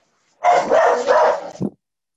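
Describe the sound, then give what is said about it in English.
A loud dog barks and snarls in one sustained, harsh burst lasting over a second, followed by a short clipped final bark; no one speaks. “That dog sounds vicious.”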